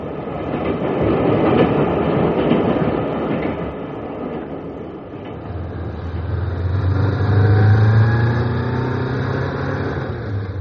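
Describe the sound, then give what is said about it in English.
A hired car with a driver speeding up a road: a steady, loud rumble of engine and tyres, easing briefly mid-way, then a deeper straining drone with a rising whine as it climbs. No voices. “Hire this car or wait till tomorrow.”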